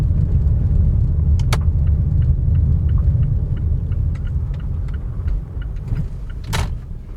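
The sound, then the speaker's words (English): A car rumbles slowly at low speed as it pulls into a parking spot in Benalla, a regional town a couple of hours' drive from Melbourne, Australia, where one other car is parked, with a steady, faint ticking throughout and two sharp clunks, one early and one near the end. No one speaks. “Let me find a park. When I say let me find a park, there's one other car here.”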